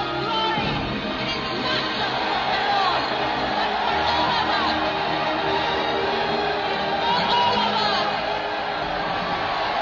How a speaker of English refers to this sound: When the crowd sings.